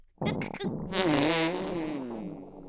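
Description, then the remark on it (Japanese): A long, loud fart with a raspy, wavering pitch, starting with a few brief sputters and stretching out for over two seconds before trailing off. “お前はただ私のおならを堪能してチンポを追っ立てていればいいんだ。”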